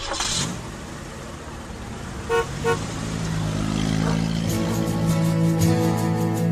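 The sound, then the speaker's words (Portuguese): A car horn gives two quick toots, then an engine starts and revs up into a steady, rising drone as the car pulls away, driving off toward a small farm, loud with no voices. “Carla pegou seu carro e seguiu para a chácara de Gilmar.”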